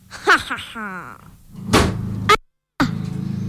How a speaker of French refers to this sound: T'es tombé de ta chaise.